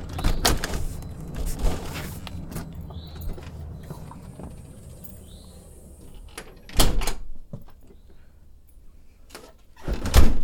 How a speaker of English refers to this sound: There we go. Got the door nice and locked